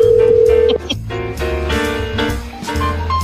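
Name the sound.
telephone dialing tones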